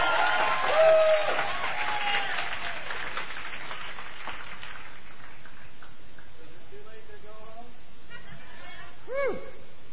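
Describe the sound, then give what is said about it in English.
An audience claps loudly for the next act, a singer and guitarist; the dense applause gradually thins out over several seconds before a voice starts talking and rising tones take over. “And let's give a big Saturday Night Live round of applause for our next act,”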